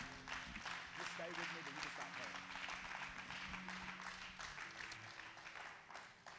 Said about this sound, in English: Could you clap your hands to the Lord one more time?